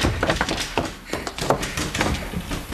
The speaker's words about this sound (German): Sperrt die Türen hinter euch zu. Die sind so stabil, dass die Wachen Stunden brauchen, bis sie sie kaputtgeschlagen haben.